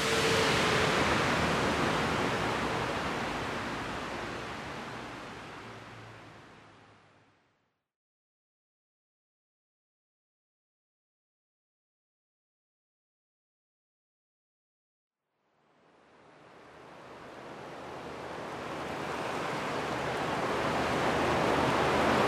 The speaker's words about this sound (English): This is not like epic rain like yesterday, but it's not small rain. It's pretty big rain.